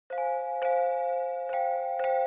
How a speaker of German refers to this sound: Die Klänge dieser Glocken haben für uns mit Glocken eigentlich nichts zu tun. Das ist eher Geräusch statt Musik. Aber das war eben der Anfang, bis man dann angefangen hat, sie tatsächlich zu gießen.